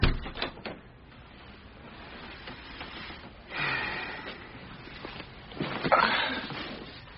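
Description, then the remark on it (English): A door is pushed closed with a soft thud, surrounded by a few clicks and shuffling movements; nobody speaks. “please shut the door and have a seat.”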